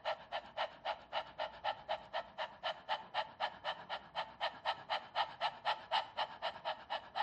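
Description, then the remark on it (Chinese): A person imitates a dog panting with the mouth open and tongue flat, as a breathing exercise to activate the diaphragm: a steady, fast train of breathy huffs, about four per second, fairly loud, with no talking. “这里的狗哈气呢，有两种练习法，一个是张口，一个是闭口。先说张口练习啊，就是要把你的嘴巴张开，舌头放平。”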